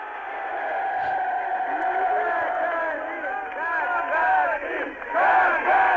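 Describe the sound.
A large crowd in the streets of Moscow chants the name of Yuri Gagarin in unison at the announcement of his return from space, voices rising and falling in a steady, rhythmic roar that fills the whole six seconds, heard through a muffled, narrow-sounding old recording.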